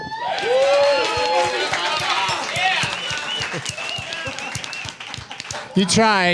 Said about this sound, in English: You tried to do it, but all that clapping, all that thunderous applause drowned out the callback.